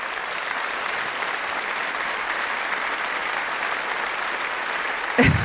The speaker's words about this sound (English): So I want RPM to do not just a round of applause, but, like, a standing ovation right now.